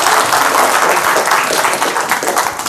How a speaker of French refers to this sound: Merci beaucoup, on applaudit